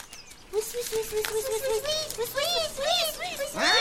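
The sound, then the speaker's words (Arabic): Baby birds scream from the nest as a fox approaches the nests and eats the chicks, in a rapid, overlapping burst of shrill, high chirps, loud, rising to a more frantic pitch near the end. “أيها الثعلب، أين أنت؟ لماذا تصرخ الأفراخ؟”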